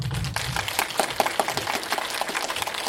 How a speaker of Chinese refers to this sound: 那好，各位观众，请我们以最饱满的热情和最热烈的掌声，请出我们的主创人员。